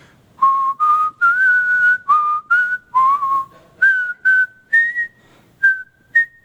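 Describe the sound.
A pastor whistles the hymn tune How Firm a Foundation alone in a hallway, a slow, steady melody of about a dozen clear sustained notes rising and falling, with no talking.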